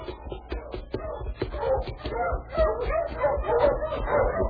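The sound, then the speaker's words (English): A dog named King barks repeatedly behind a man, a string of sharp woofs and higher yips coming in quick, uneven bursts over faint shuffling movement. “My dog's right behind you.”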